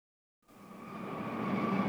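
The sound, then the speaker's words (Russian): After a brief silence, railway station ambience fades in: a steady low rumble of trains with a faint tonal hum, growing gradually louder. No voices can be heard. “Вы ждете на вокзале гостя из Берлина.”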